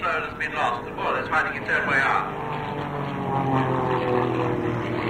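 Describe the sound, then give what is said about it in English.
A biplane's propeller engine drones steadily and loudly throughout, a continuous buzzing roar with a rough, throbbing texture, while a voice talks over it near the start. “Tvåvingat plan, menar jag.”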